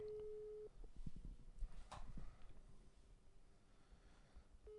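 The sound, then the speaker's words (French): A telephone ringback tone on an outgoing call, made live on air to the deputy for culture at the town hall of L'Île-Rousse: a steady electronic hum that stops, leaves a pause filled with low rumbling and faint handling noise, then starts ringing again at the end. “Alors attention, il y a la jurisprudence des trois sonneries.”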